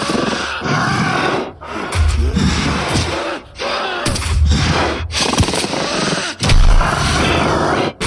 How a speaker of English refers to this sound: Blinding light suddenly flooded the room, and the roar of the werewolf echoed in the roar of gunshots.